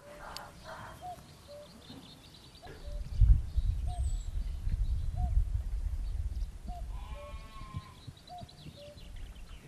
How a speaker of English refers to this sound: oh, listen to the cuckoo.